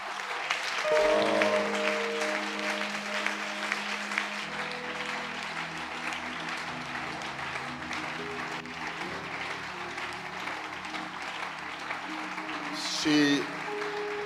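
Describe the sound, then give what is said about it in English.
An audience claps steadily to honor a woman, a dense wash of many hands over a low sustained tone with shifting notes, swelling briefly near the end before the applause carries on. “And that is why I want us to honor her with a hand clap.”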